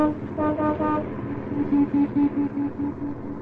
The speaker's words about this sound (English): I don't like the way you tooted your horn, punk. It's too bad for you if you tip that guy off that you're in trouble.